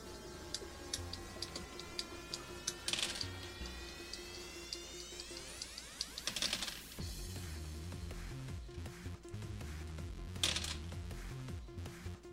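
A long, busy stretch of many dice being rolled to determine a boss's HP, dozens of sharp clicks and taps tumbling together in rapid bursts, with a few louder crashes along the way over a low background hum.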